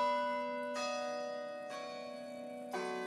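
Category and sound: sound effect, bell ringing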